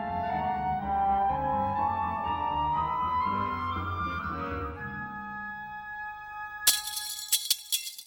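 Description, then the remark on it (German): A sustained, slowly rising tone fades out, then a loud burst of bright, sharp metallic clinks and rattles: small steel plates dropped to imitate clinking window panes, as in a break-in. “Klirrende Fensterscheiben, bei einem Einbruch etwa, imitierte ich mit kleinen Stahlplättchen, die ich fallen ließ.”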